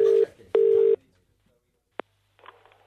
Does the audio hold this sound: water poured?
no